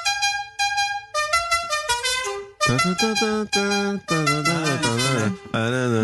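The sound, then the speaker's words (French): A car horn blares out a song melody, a series of sustained, harmonically rich honks stepping through different pitches in a melodic rhythm, loud with brief gaps between notes. “Pouvez-vous me donner soit l'interprète, soit le nom du titre interprété au klaxon?”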